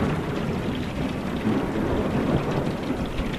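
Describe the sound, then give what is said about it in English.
Steady heavy rain pours down with a deep, continuous rumble of thunder rolling underneath, a dense storm sound with no voices: a severe thunderstorm with extreme straight-line winds striking the community of Bertram late on a Monday evening, March 22, 2021. “Late on that Monday evening, a severe thunderstorm crashed down on the community, thrashing it with extreme straight-line winds.”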